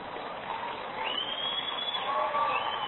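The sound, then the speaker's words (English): Steady clapping and crowd noise from an audience of women, a moderate wash of applause sustained throughout, with a brief high whistle rising over it partway through. “You women are too chicken to really applaud the way you feel.”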